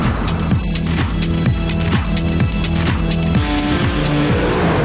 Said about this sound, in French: Les stupes et leurs infiltrés doivent ensuite suivre la remontée de la cargaison vers la France par le biais de GoFast. Vous avez ces cortèges de voitures qui remontent de la drogue à une vitesse folle sur la route.